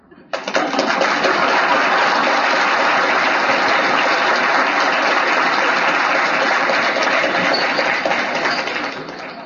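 A large audience at a Scientology Congress breaks into sustained applause, a dense steady roar of clapping that starts abruptly and holds at full strength for several seconds before beginning to taper.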